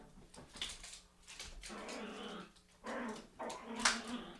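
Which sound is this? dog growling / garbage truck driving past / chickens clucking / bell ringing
dog growling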